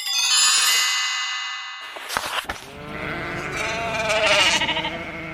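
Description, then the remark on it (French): A sustained ringing chime fades out, then a sheep on a farm bleats loudly, a long wavering cry with a shaky, quavering tone that carries to the end. “Dans une ferme qui paraît pourtant si paisible, il ne se passe pas une journée sans que le cochon et le mouton ne se chamaillent.”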